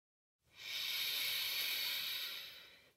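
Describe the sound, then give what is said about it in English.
A single slow, airy inhale through the nose, soft, rising gently and holding steady for a couple of seconds before tapering off, taken during a guided relaxation breathing exercise, with no talking. “With a soft belly, breathing in”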